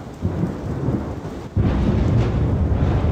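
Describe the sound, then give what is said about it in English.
Heavy rumbling thunder rolls through a night storm in southern Wisconsin, starting as a low steady growl and swelling abruptly louder about halfway through, with rain hissing underneath. No voices. “Storms rolled through southern Wisconsin again last night, and man, that thunder was loud.”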